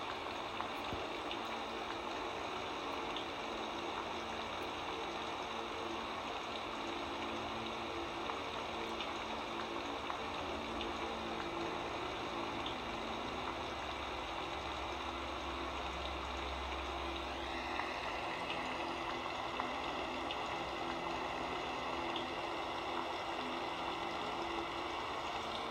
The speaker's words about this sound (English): Enjoy for a few moments this sacred sound of rain, and let your heaviness of your mind to be clear and washed away and purified with this water. Enjoy.